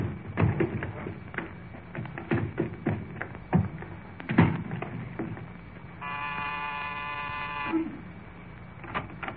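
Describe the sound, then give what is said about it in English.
A heavy trunk tagged as belonging to Jack Benny is carried up to the door with a run of irregular, dull thumps and knocks, followed by a steady, loud buzzing tone lasting a couple of seconds, then one more bump. “Now, come on, help me carry this trunk up to the door.”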